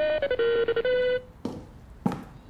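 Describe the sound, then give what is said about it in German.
A telephone rings in the morning with a short electronic melody of stepping tones for about a second, followed by two soft thuds, as if the handset is being picked up. “Ihm würde noch eine Menge mehr einfallen, würde in diesem Moment nicht sein Telefon klingeln.”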